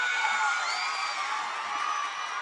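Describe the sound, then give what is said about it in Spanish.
An audience applauds and cheers loudly and steadily, a dense wash of clapping with high whoops and shouts riding over it throughout, as students of Instituto Montserrat Roig go up on stage to perform at a radio-broadcast event. “Vamos a darle un fuerte aplauso. Ya sabéis que se oiga en la radio.”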